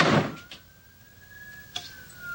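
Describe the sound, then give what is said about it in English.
A door swings open with a brief rush of air as a man heads out through it, a thin sustained whine hangs for about a second, then a sharp click as it shuts. No voices. “Gordon heads out the door.”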